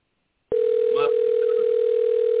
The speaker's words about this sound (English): whose phone is ringing?